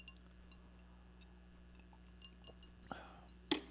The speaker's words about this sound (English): This glass was full. I took a few sips. Now it's not full.